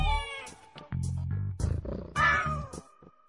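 A cat meows and yowls several times in quick succession, loud, shifting between high whiny cries and lower, throaty, drawn-out tones with no one talking.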